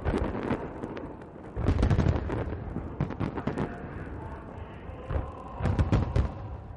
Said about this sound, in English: The celebration began Monday with a huge show of fireworks in the capital, Pyongyang.